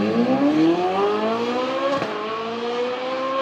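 A car engine accelerates steadily, its pitch climbing over several seconds with a brief break partway through, like a gear change, then rising again. Loud and continuous, with no voices.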